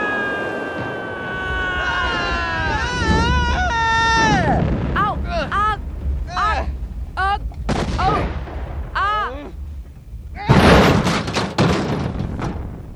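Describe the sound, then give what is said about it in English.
A spaceship is hit in crossfire and crash-lands in the middle of a city: warbling, swooping electronic tones and zaps over a constant engine rumble, then a sudden loud crashing burst near the end. “Our ship must have been hit in the crossfire. We came down hard, but...”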